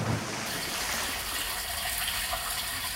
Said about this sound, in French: Et quand tu ouvres ton robinet, elle coule.